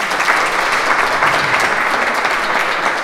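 An audience applauds the coach of a Polish Paralympic shooter who won the first Polish Paralympic medal in sport shooting: a dense, even patter of many hands clapping for about three seconds at a loud, constant level with no voices on top.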